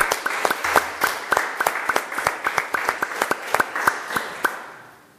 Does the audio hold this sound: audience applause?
yes